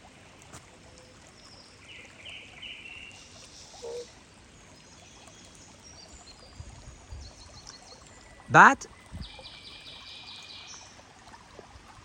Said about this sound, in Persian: یه رودخونه هم اینجاست، موازی رودخونه اصلی. ببینید چقدر قشنگه.